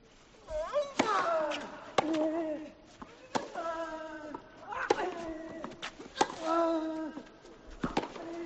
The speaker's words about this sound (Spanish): Situamos a todos los oyentes de Tiempo de Juego en la mejor silla de toda la Philips Chatrier. Estáis sentados en primera fila, vais a oír el tenis como solo se oye en Tiempo de Juego.